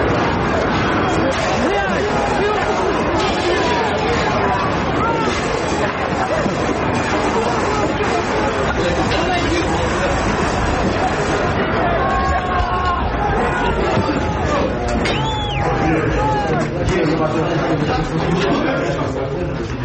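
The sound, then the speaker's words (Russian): A large crowd surrounding soldiers shouts slogans and clamors continuously while throwing stones, many raised voices blending into a loud, dense roar that holds steady for the whole stretch with no clear individual words. “Понял, я слышу крики.”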